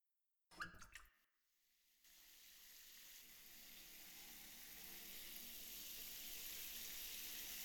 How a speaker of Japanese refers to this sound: じゃあ、まずは、お背中にシャワーをおかけしますね。暑かったら、言ってくださいね。